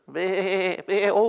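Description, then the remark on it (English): Two drawn-out sheep bleats in quick succession, the first longer and quavering, the second shorter, loud with nothing else around them. “And Samuel says, "Well, what's that bleating of sheep and lowing of oxen in my ear?”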